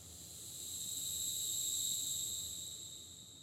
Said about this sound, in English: She sat on that bench, watching the beautiful concert of the grasshoppers, long after the stars had lifted into the night sky.